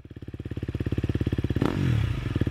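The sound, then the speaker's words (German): A motorcycle engine cranks with a rapid, steady chugging, then catches with a sharp burst and revs up loudly, the pitch climbing, with no voices. “Auf ihren Motorrädern vermitteln sie euch verschiedene Sounds und Gedanken, die mit dem Motorsport einhergehen.”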